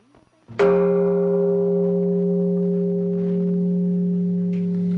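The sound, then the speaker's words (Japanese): A single deep bell of Taishoji temple in Fukusaki town, Japan, is struck once, its loud strike settling into a long, steady, humming resonance with layered overtones that sustains without fading for several seconds. “今日はここで興奮をちょっとこう冷ましていただくために、さっきの大正寺のね、はい、鐘の音を取ってきましたので、これを聞いてください。”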